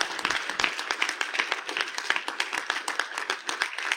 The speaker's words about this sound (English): Amen. Amen. Give Him the clap offering. Hallelujah. God, You're great. We thank You.